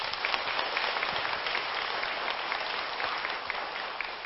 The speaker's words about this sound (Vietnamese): Thì mong quý vị hãy phát tâm lực của việc đó bằng một tràng vỗ tay để cam kết.